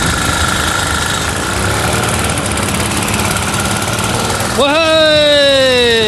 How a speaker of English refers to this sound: Maybe their dead engine needs more than 3 revs a minute to get it started. A jump start with a hand drill could give Lazarus a new lease of life.